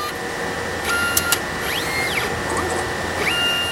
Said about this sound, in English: The machine is a mass spectrometer. It's about the size of a dishwasher. It uses electric and magnetic fields to identify the molecular mass of a sample's ions, and that tells researchers if the particular substance they're looking for is present.